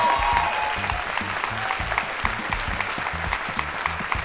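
A live audience applauds steadily, dense clapping filling the space at a consistent, moderately loud level with a faint murmur of crowd underneath, no speech heard.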